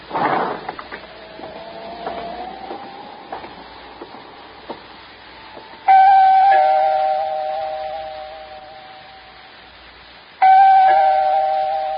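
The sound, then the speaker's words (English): The doorbell of the only apartment on a seventh floor, its door standing open, rings twice, each a bright, sudden chime that lingers and slowly fades, the second coming about four seconds after the first, following a few quiet clicks and shuffles. “I see the door's open like it usually is, but maybe you better ring, sir.”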